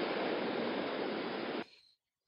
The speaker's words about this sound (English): I'm looking here. I'm looking out at the water. It is, I'm sure you can hear the waves. You might not be able to hear me.